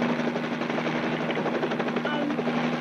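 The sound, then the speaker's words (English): A helicopter drones loud, its engine a steady roar with the rapid rhythmic chop of rotor blades pulsing throughout, hovering right above a store while needing fuel. “You're in a helicopter above me? Yeah, we're right above the store.”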